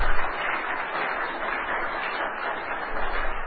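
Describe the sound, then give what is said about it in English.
A church audience claps steadily for Jesus, a dense, sustained wash of many hands applauding together at moderate loudness for several seconds, with no voices standing out. “Can we clap our hand for Jesus?”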